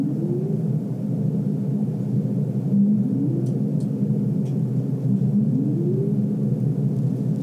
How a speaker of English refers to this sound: Everyone knows humpback whale songs. They are some of the most commonly known, and they're really beautiful.